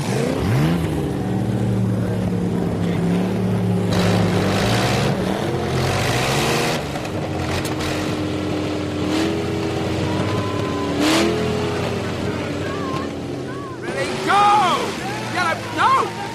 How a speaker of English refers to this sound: All right, here we go. Ready for the second pull. Okay, start your engines.